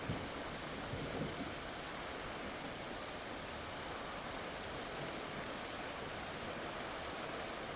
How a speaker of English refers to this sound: And like a punctual Spanish siesta, where the streets empty, it's the same in Southeast Asia. Not many people out and about when the rains come down really heavy. Everybody finds some kind of shelter.